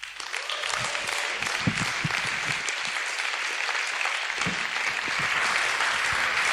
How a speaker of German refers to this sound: Wenn er auf die Bühne kommt, dann lass uns ihm doch einen fetten Applaus geben.